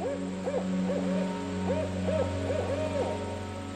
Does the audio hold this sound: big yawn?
no